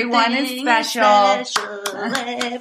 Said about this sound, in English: You like the clapping?